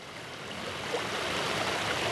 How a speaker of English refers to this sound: A soothing man-made waterfall is the centerpiece of the monastery grounds